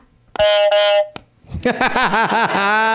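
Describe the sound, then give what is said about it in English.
A loud, brassy novelty buzzer blares for about half a second with a slight stutter, then after a short gap a second comical noise warbles up and down in rapid, wobbling pitch. “So thanks to the Flannel Cakes podcast for these buzzers, and I'm gonna try them out with my guests tonight.”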